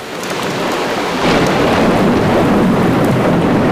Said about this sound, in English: Suddenly, it began to rain. At first, the rain was not very strong. But it became stronger and stronger.